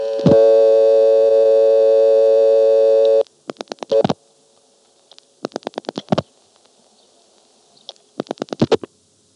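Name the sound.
telephone ringback tone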